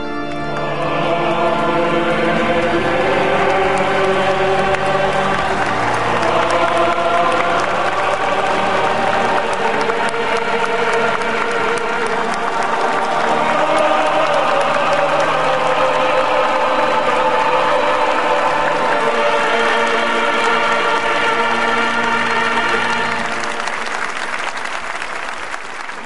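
A large crowd applauds and cheers steadily and loudly alongside sustained singing whose notes shift in pitch every few seconds, as an image of Blessed John Paul II is unveiled on the facade of the Vatican Basilica at his beatification; then the sound drops away near the end.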